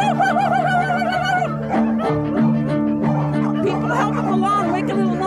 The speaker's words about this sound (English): And for 5 minutes, these dogs barked and howled and yelled. And I was like, I thought, I can die right now. So this is just like the most beautiful sound of like free sound.